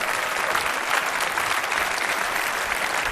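Sustained applause from an audience for the jurors, a dense, steady patter of many hands clapping at once for the full few seconds, with no talking over it.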